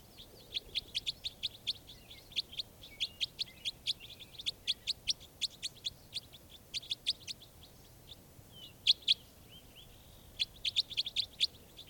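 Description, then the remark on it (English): Raspy calls of birds around a net in which two birds have been caught repeat in quick bursts of short, high-pitched notes, fairly faint, with a brief lull before the calling picks up again; no one speaks. “This real raspy one is one I'm going to shoot right now.”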